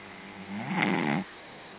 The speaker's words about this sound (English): Somebody's snoring.